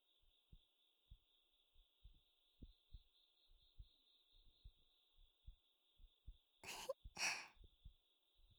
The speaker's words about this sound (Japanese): 私の心臓の音、心地よかったでしょ。